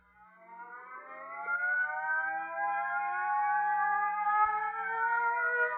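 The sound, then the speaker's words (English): A wailing emergency crash alarm siren, set off by hitting the crash button, rises in pitch and holds a steady, loud drone with several layered tones sliding slowly upward, sustained for several seconds with no talking. “You better hit the crash button.”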